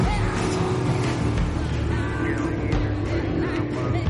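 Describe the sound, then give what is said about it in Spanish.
A motorboat engine roars loudly on a river, a dense continuous drone with some churning water noise, holding steady as a young man accelerates the boat, turns it around and speeds away. “El joven acelera, gira en redondo y se aleja.”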